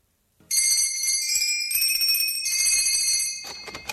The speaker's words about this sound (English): We walked over to Sandy's workshop. Rang the bell.